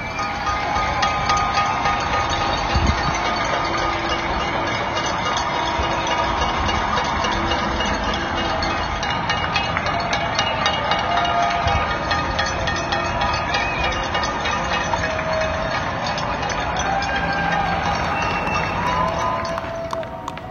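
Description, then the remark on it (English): Many people in New York City clap at once from their open windows at 7 at night to thank healthcare workers, a dense, continuous crackle of applause that holds steady and loud for about twenty seconds with no pause or fade. “Every night at 7, people open their windows and clap for healthcare workers to thank them for their service.”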